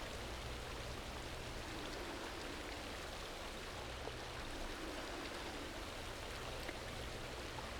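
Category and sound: nature, waterfall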